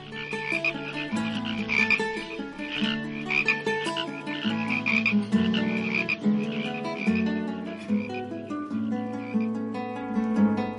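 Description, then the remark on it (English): A dense chorus of many frogs, young and old, croaking at once, overlapping pulses and trills filling the air continuously and loudly, with no voices present. “Young frogs, old frogs, every one of them began to sing.”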